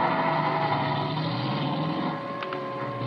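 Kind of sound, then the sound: vehicle, car engine driving away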